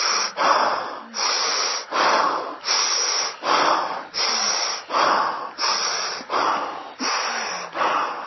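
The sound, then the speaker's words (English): A person breathes forcefully and rhythmically, about eleven quick, evenly spaced breathy bursts with a hissing, airy tone, each followed by a brief pause. No talking is heard. “3 minutes, I'm going to breathe like this.”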